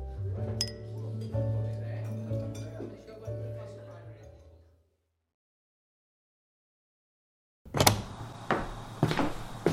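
Glasses clink together in a toast, a bright chime after a brief silence, followed by more light clattering. Earlier, a low steady hum with scattered clinks fills the background.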